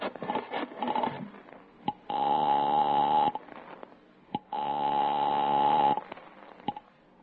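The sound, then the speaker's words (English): An old-style telephone rings twice, each long, buzzy double-bell burst lasting over a second with a pause between, loud, with faint clicks and shuffling in the gaps. “I told you never to use this phone.”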